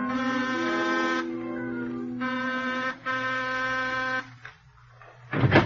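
An apartment doorbell at the front entrance, rung at 9:13, buzzes in two long, harsh electric bursts with a short gap between them, steady and fairly loud, followed by a brief rustling noise at the end.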